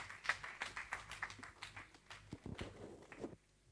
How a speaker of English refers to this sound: Let's give the Lord a super hand clap.